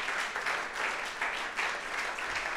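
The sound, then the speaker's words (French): A crowd applauds steadily after a prayer for those who have chosen to follow Jesus Christ. It is a dense wash of many hands clapping at an even, sustained level, with no voices standing out. “On peut applaudir ceux qui ont fait ce choix.”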